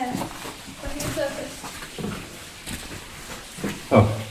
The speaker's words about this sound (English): So you can hear the water running now.